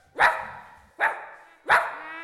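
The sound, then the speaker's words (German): Three loud, frightened animal cries, like sharp dog yelps, from the cellar of a house in the small town of Deppenstedt, come at a steady pace, each a bright harsh burst that fades quickly, with no talking. “Zur gleichen Zeit konnte man in dem kleinen Städtchen Deppenstedt im Keller eines hässlichen Hauses ein heftiges Fluchen und das Geschrei verängstigter Tiere hören.”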